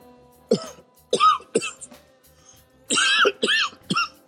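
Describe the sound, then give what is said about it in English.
A person coughs in harsh, raspy bursts after smoking marijuana, about six in all, arriving in two close groups with a short pause between, loud with no talking. “Cough. Cough. Cough.”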